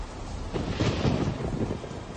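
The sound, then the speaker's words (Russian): A thunderstorm: a low, rolling rumble of thunder that shakes the ground swells and fades over steady, heavy hissing rain, with hurricane-force gusts of wind lashing trees, fairly loud, and no voices. “Уже через несколько секунд от раскатов грома сотрясалась земля, порывы ураганного ветра стегали деревья, а небеса проливали на землю обильные потоки дождя.”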